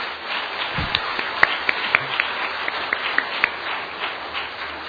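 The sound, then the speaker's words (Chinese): A crowd claps together in a steady wash of applause, dense and moderately loud, with sharper individual claps popping out now and then, given as applause to the Lord after a church testimony. “让我们用掌声来归给我们的主。”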